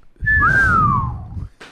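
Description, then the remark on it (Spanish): A person whistles a short, clear phrase that slides downward in pitch, fairly loud, with a breathy rumble underneath and no talking. “Con un silbido nunca se falla, ¿no?”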